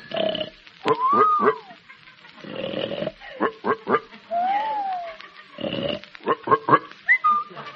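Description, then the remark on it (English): Short bursts of pig oinking alternate with a sliding, rising-then-falling whistle, the pattern repeating about three times, fairly loud with no talking. “That was Pig and Whistle.”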